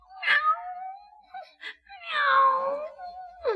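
A cat meows twice, each call long and drawn-out with a wavering pitch, separated by a brief pause; a third meow begins just as it ends.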